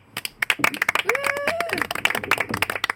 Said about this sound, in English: I think it's a round of applause